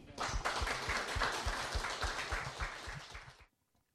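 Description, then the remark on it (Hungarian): A crowd applauds steadily with dense, continuous clapping to thank a guest speaker, holding for a few seconds before cutting off abruptly into silence. “nagyon szépen köszönjük, hogy itt voltál és mindezt elmondtad, egy nagyon nagy tapssal köszönjük meg.”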